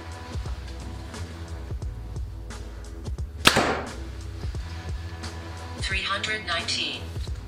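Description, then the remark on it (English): A single sharp release of a Hoyt Ventum 30 compound bow (29-inch draw, 70 pounds, 80% let-off) shooting a 350-grain arrow cracks out mid-clip, a loud snap with a brief whooshing decay, followed by a crisp impact-like burst; low background hum and faint talk-like activity surround it. “All right, guys, now the Hoyt Ventum 30 at 29 inches of draw, 70 pounds with 80% let off. First arrow, 350 grains.”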